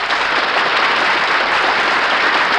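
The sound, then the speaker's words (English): Steady, dense applause from a sizable audience applauding the guests, including Peter Lorre, many hands clapping at once in a continuous loud wash that holds evenly throughout without pause. “Now listen, folks, will you please stop applauding these guys?”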